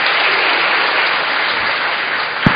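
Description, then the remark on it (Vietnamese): A large crowd at a Catholic Mass claps steadily in a dense, continuous roar of applause, thanking the Archbishop of Saigon for his Tết (Lunar New Year) letter. The applause fills the space evenly, with no voices heard and a single louder thump near the end. “Chúng ta cho một tràng vỗ tay thật lớn cảm ơn Đức Tổng đã gửi thư chúc Tết.”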